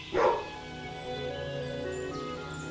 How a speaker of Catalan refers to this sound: El gos va contestar amb un lladruc fosc, de pocs amics.